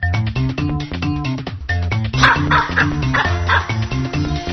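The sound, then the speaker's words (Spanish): A dog barks in a quick series of sharp yelps partway through, over a steady, rhythmic music backing that runs the whole time. No one speaks. “Señor, tengo un mono del jardín que está intentando asesinar a mi perro.”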